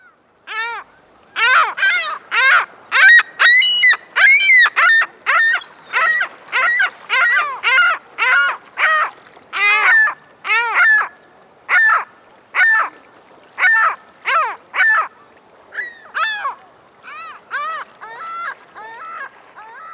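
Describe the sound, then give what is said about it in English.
Ring-billed gull calls ring out loud in a long rapid series of harsh, nasal squawks, dozens in quick succession, with no voices. “That sound you just heard is a ring-billed gull, one of the most commonly seen birds in our area, and indeed in most areas of our country, but it's seldom really noticed.”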